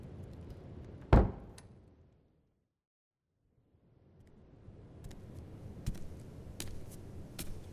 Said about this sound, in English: Knock, knock. Hello, my child. I came to check up on you.